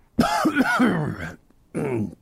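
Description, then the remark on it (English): A loud burst of raspy coughing and throat clearing lasting about a second, followed by a brief pause and one more short, rough cough. “I can't hear you over this terrible cough.”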